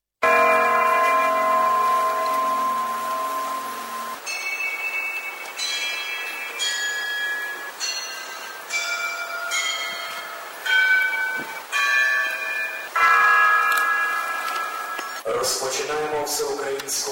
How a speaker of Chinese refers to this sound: 当地时间下午4点，纪念仪式上响起了钟声，主持人宣布全国默哀1分钟，然后开始点燃蜡烛的纪念活动。